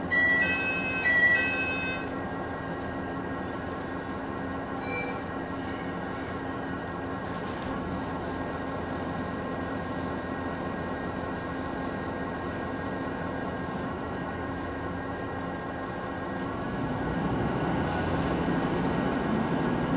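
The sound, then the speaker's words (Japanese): Inside a local train bound for Sapporo in motion, stopping at every station: a steady rumble of wheels and motor hum with faint whining tones, opening with a brief high electronic tone and swelling slightly louder near the end. “札幌行き普通列車です。”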